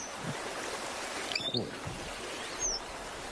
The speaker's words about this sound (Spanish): y en el ruido de las cascadas, casi no se la oye, escucharemos a una lavandera cascadeña.